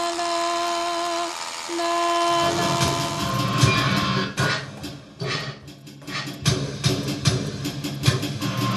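A train rumbles and rattles past with a loud, low roar and dense, irregular metallic clatter, while a steady horn-like tone sounds at the start before the rattling takes over.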